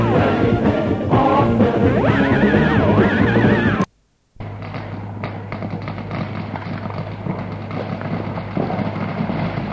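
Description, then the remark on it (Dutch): Sinterklaas's grey horse whinnies with a wavering, high-pitched call near the start, over a busy background; after a brief silence, steady rustling and thumping noise continues without the neigh as the horse is being brushed. “En er is ook een Zwarte Piet die het paard van Sinterklaas borstelt.”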